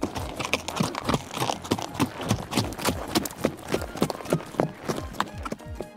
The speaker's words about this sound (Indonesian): Mereka berkuda mengelilingi kampung adat.